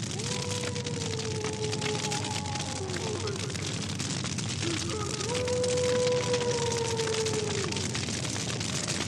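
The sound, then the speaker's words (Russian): A fire roars with a dense, steady rushing hiss and fine crackle throughout, while a wavering tonal whine rises and falls above it twice. “А огонь шумит.”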